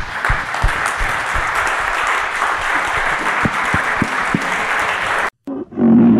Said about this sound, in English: Well, gentlemen, thank you. I think we should all stand up and give these guys a big round of applause.